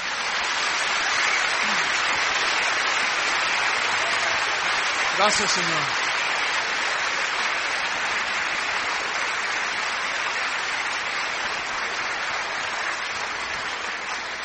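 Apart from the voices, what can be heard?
audience applause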